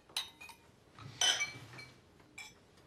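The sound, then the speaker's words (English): Several glasses clink together in a celebratory toast in quick succession, bright ringing taps clustered near the start and middle with one last clink trailing after, moderately loud. “So to Michael and Ma. Cheers. Cheers. Cheers.”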